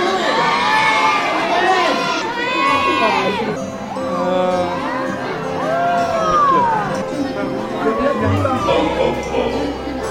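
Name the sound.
children shouting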